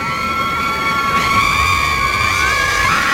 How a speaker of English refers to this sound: They're all just standing on the side of a lake, a beach-esque lake thing, and just screaming at the top of their lungs that Trump got elected.